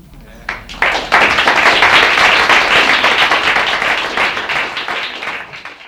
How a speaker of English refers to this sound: I think this will get really long if we clap after every poem. I think it'd be best if we hold the class till the end.